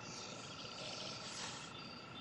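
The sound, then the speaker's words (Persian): Crickets chirp in a dense, unbroken high-pitched trill at night, a steady buzzing chorus with no pauses and no voices. “شبا خیلی سر و صدا است. جیر جیرک ها جغدا.”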